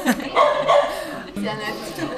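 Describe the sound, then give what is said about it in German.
A dog barks a few times in quick succession, moderately loud, mixed in with people talking in the background. “Wir haben auch Hunde da.”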